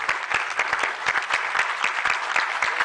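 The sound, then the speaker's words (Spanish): A crowd applauds steadily, dense overlapping claps forming a continuous, fairly loud wash of sound for the whole stretch, with no voices standing out. The applause is for the president of Colombia, at a meeting with the vice president and government team. “Este aplauso representa lo que sienten todos los colombianos por usted.”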